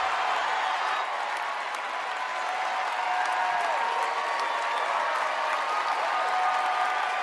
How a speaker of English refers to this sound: And then I love how they stand and they cheer.